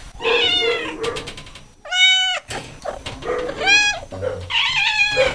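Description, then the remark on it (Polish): Several newly arrived kittens meow repeatedly and overlap one another with high, wavering cries, in the quarantine room of an animal shelter. One sharp, clear meow stands out briefly in the middle. “No tutaj jest kwarantanna, gdzie trafiają nowe kotki.”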